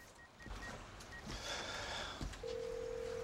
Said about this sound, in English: He makes a call on his mobile.